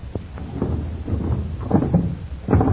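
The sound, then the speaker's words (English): A door is pushed shut again with a series of low scraping and thudding knocks, ending in a heavier clunk as it closes. “We'd better close this door again”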